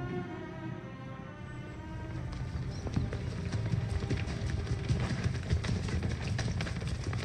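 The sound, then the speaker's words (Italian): Horses run freely over the grasslands of Slovenia in the work Earth Above the Ground, their hooves clip-clopping in a dense, quickening patter that grows louder after a steadier, humming opening. No one speaks. “In Earth Above the Ground noi vediamo come questi cavalli, che inizialmente li vediamo correre liberamente nelle praterie della Slovenia, sono poi costretti a degli allenamenti molto molto duri dai loro fantini”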